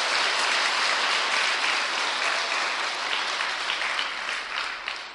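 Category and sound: crowd, audience applause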